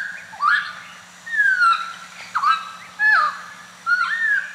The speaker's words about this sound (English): a clock of birds, and that certain birds, like the New Guinea friar bird and the hooded butcher bird, when they sing in the mornings, the children are taught to understand that that's a signal to get up and leave and, you know, get out of the house.